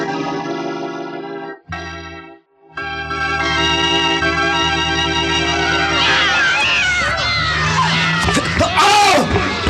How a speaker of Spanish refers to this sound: Se escucha un extraño grito, algo semejante a un maullido, pero en tono jamás oído.